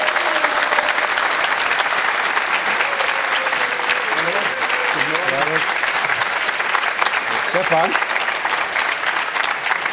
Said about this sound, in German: Das war fast lauter, der Applaus, als bei dir vorhin.